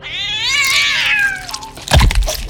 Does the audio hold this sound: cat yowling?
yes